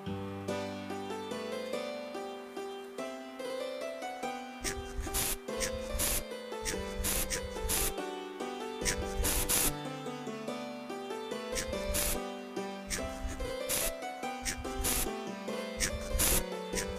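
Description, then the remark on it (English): Repeated short, hissing bursts of termite spray from an aerosol can, several quick squirts in a row, playing over a steady background of tonal music. “Okay, here's the termite spray. Get to it.”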